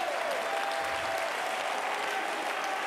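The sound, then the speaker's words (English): A church audience claps their hands to the Lord in sustained, dense applause that runs steadily from start to finish, with no one speaking. “Clap your hands to the Lord. I said, clap your hands.”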